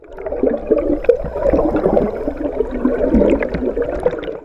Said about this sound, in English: That underwater sound from a Chesapeake Bay tributary sets the stage for our second episode on the importance of the eastern oyster.